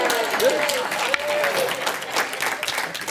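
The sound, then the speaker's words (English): Steady applause from an audience for someone who has just done a demonstration with tools in front of people, a dense crackle of many hands clapping at an even loudness throughout, with a faint whistle-like tone briefly rising above it. “They applaud you.”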